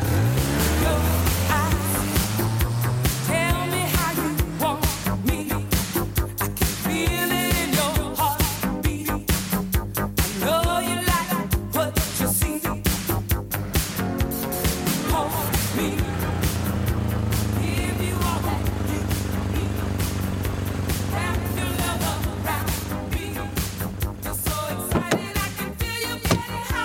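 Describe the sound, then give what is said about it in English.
A car engine drones steadily for nearly half a minute as the car is driven to Wandsworth, a loud continuous low rumble with busy, cluttered sound layered on top and no clear talking. “Someone get me a car and a driver.”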